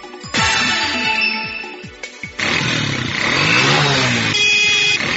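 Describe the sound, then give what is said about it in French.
Buzzing motorcycle taxi engines rev and pass in busy street traffic in Kinshasa, with a loud continuous drone, shifting pitch as bikes accelerate, and a brief horn blare mixed in. “Les taxis-motos comme moyen de transport en commun deviennent de plus en plus fréquents dans la capitale.”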